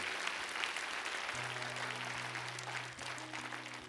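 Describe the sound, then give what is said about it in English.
An audience applauds steadily for the full few seconds, a dense, even wash of clapping, with low sustained keyboard or organ notes humming underneath. “Give these men and women a round of applause who just said yes.”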